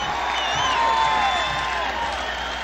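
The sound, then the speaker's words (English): A large crowd at an anti-nuclear rally at the Ellipse roars and cheers in a steady, dense wall of noise, with a few thin whistle-like tones drifting through, holding loud for the whole short stretch. “The crowd responded to several rallying cries”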